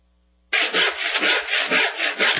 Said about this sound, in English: Honey, why are you cutting branches off the Christmas tree? So all the big gifts fit under it. You cut them 5 feet from the bottom. Is that not enough?